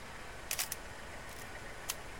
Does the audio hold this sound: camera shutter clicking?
yes